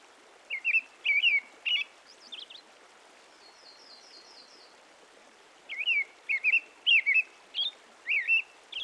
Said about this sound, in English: That's a robin, one of the many members of the thrush family.